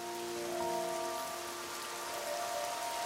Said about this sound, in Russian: Хорошо, что сегодня идет дождь.